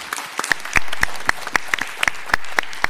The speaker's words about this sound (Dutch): Dus in ieder geval, hartelijk dank. Ik wil graag een applaus ook.